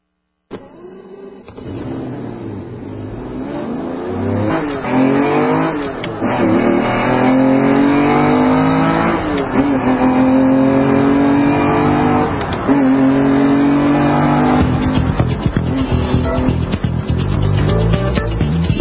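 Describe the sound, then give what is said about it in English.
A race car engine revs hard and accelerates, its pitch climbing through repeated rising sweeps as it shifts gears, loud, with no talking over it. “Got to have the wheels tight on the race car before you take off.”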